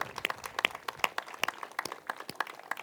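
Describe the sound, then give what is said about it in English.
An audience applauds First Lady Michelle Obama, with many sharp hand claps overlapping in a steady, crackling patter that carries on evenly throughout, moderately loud and with no voices heard. “So first of all, I think we need a huge round of applause for the most famous vegetable gardener in the world, our First Lady, Michelle Obama.”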